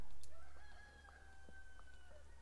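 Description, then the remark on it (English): A rooster crows once in the morning amid misty, moist air, a long drawn-out call that holds steady before trailing off, over a low, steady background hum with no one talking. “And there's a rooster saying good morning.”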